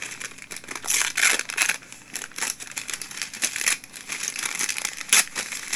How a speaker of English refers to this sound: God, you gotta appreciate a cat just tearing open his first Christmas present like this.